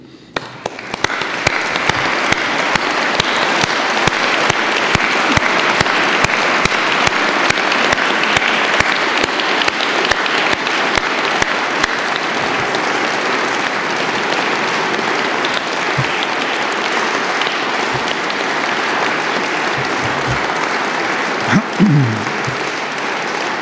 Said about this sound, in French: Je prie maintenant les lauréats de ces grands prix de bien vouloir se lever et vous invite à les applaudir.